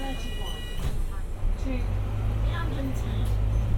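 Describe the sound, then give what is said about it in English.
A deep, steady engine rumble fills the inside of a moving bus in London, growing fuller after the first second or two, with indistinct voices and faint chimes in the background. “In this instance though, I faded cleanly between one sound and the next, the supermarket in Germany to the bus in London.”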